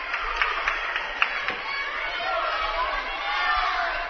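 A William Jewell basketball crowd cheers and murmurs excitedly as the team tries to make a comeback, a steady roar with a few sharp claps or shoe squeaks early on, swelling slightly louder toward the end.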